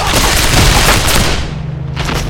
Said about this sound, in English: The hail of bullets nearly tore his head from his body.